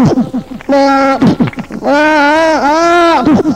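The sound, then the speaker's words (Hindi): A human voice imitates a goat's bleat twice, first a short nasal cry, then a longer, wavering one, loud, with brief vocal sounds before them. “कोई लाल रंग की बकरी देखी तो मालूम क्या करता है? क्या करता है?”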